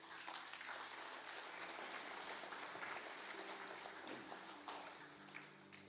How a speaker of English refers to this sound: Let's just give these people a clap. Just celebrate their faith.